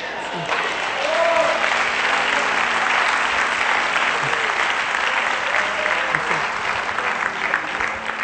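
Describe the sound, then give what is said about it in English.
A large church audience claps steadily for several seconds during a sermon, a dense, sustained wash of applause with faint voices and scattered shouts mixed into the crowd noise. “I don't need your applause anymore.”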